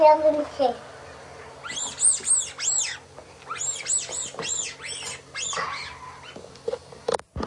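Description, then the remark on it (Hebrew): A rubber toy duck squeaks in quick bursts, a run of three high, wheezy squeaks, then a longer string of about five, after a brief voice at the start. “תצפצף עם הברווז לסבא?”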